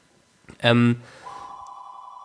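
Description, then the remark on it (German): A telephone called the Flippofon rings with a steady, high electronic tone that holds for about a second, just after a short, loud, buzzy burst. The ring is clear. “Da ist das weltberühmte. Das Telefon mal wieder.”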